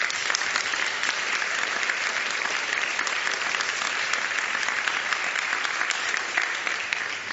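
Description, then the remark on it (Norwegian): An audience applauds the makers of the films just shown, steadily for several seconds, a dense, even wash of clapping that holds at a consistent loudness throughout, with no voices standing out. “Jeg synes de skal få en liten applaus.”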